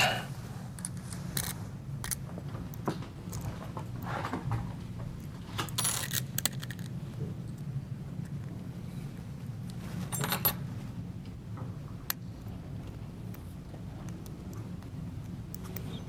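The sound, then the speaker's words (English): Metal code-setting keys click, scrape and jingle as they open a five-pin lock to set the pin, in irregular bursts with a few sharper clacks, over a low steady background hum. “Those are our code setting keys that we use to open these locks to set the pin.”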